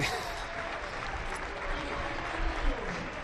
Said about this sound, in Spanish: Aplaude la afición a Álvaro y a Camello, que se retiran del campo tranquilamente. Ahora. La ovación. Ahora, que diría. Y ruge Vallecas.